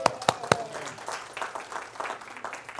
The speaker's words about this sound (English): I want to give them a hand clap.